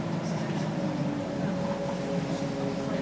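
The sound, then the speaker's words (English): A train rumbling over a viaduct, heard from underneath, a loud, continuous roar with low droning tones that holds steady for the whole stretch, unbroken. “Really gives you a shock when you're walking under there on a train.”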